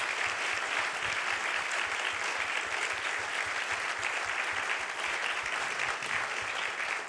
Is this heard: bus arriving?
no